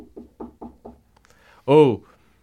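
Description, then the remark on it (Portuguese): Five quick, evenly spaced knocks on a dressing room door at a concert, moderately loud and dull, followed after a short pause by a brief loud voiced call. “Batendo na porta do camarim.”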